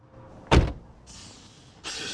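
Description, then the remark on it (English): A man gets back into a car on a cold day and the car door shuts with a single solid thump, followed by the steady whir of a power window moving, pausing briefly, then running again. “The man gets back into the car.”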